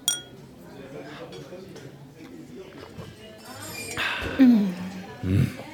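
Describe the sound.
Champagne glasses clink together in a toast to a first month in Paris, a bright ringing tap against a quiet background, with low murmured voices and soft shuffling around it.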